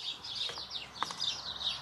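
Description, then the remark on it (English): Several birds chirp and twitter continuously in a high-pitched chorus, bright repeated tweets overlapping one another, moderately quiet, with no voices. “Can you hear the birds?”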